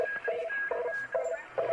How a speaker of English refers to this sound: Whoa. Something just flew by there. And it's a definite signal. Yeah, it's probably shortwave radio from God knows where.